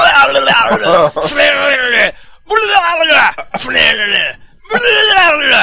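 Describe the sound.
A voice imitates vomiting and diarrhea from an illness caught at Disneyland, with loud, strained, wavering groans and gagging sounds, broken by sharp sputtering bursts and brief pauses across four or five segments.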